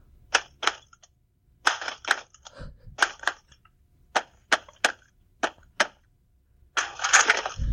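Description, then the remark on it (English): A head bangs on a table at first, then a foot knocks on a toolbox, with no hands used: sharp, hard knocks in quick clusters of two or three, with a dull thud, ending in a rougher rattling clatter. No talking. “A table in the beginning was my foot on a toolbox”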